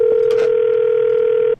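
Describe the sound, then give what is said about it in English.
A cell phone call tone, made in a grocery store in Anchorage, Alaska, hums steadily and loudly for about a second and a half, a single unbroken pitch with a few faint clicks near the start, then cuts off abruptly. “As I walked through the grocery store in Anchorage, I whipped out my cell phone.”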